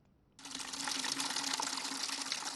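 Water rushes and splashes in a steady, loud stream as emergency medical workers and civilians clear dirt and debris from water beneath houses on the shores of Cameroon's Bakassi Peninsula; it starts abruptly after a brief quiet moment and continues without pause, with no voices.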